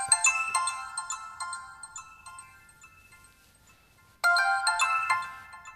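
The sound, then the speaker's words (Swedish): A mobile phone ringtone plays a bright, repeating electronic melody, fading out briefly before the tune starts again loudly. No one speaks. “Det var nog många som bytte telefon för att få just den här ringsignalen.”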